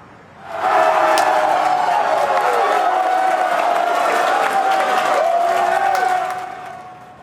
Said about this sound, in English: You can just hear the excitement yesterday as fans gathered at Players Retreat to watch the game. This is the Wolfpack's first March Madness win in 9 years.